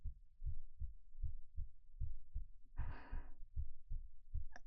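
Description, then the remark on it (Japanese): A fast, steady heartbeat, pounding with nervous excitement, thumps muffled, about a dozen deep beats in a row, with a soft breathy sigh rising briefly over them partway through. “ああ、うん、なんだかドキドキしちゃって心臓バクバクしてる。”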